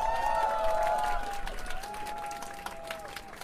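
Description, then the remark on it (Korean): A crowd at a concert in the backyard of Duriban, a demolition sit-in site, claps steadily, the dense patter of many hands filling the moment, with a few held ringing tones lingering underneath as the applause slowly thins out. “네, 다시 한번 큰 박수 보내주세요.”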